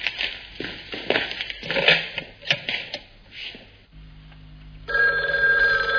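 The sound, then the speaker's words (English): A telephone bell rings. Crackly clicking and clattering come first, then a brief hum, then a sustained, bright ringing tone for the last second. No one speaks. “Well, get him on the phone now!”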